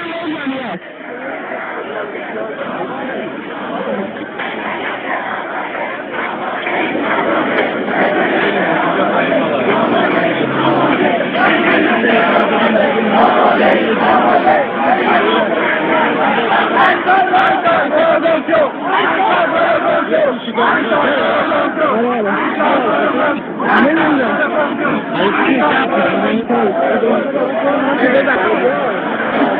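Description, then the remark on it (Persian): A large crowd of student protesters roars and shouts continuously in the afternoon, many voices overlapping into a dense, steady clamor that swells slightly after the first few seconds and stays loud throughout, with a muffled, band-limited tone. “اما بعد از ظهر صداها فریاد شد.”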